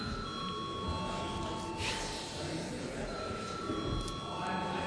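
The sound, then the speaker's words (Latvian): A parliament chamber bell rings continuously for several seconds before a vote, a steady, shrill metallic tone with bright overtones over a low murmur of background noise. “Lūdzu, zvanu.”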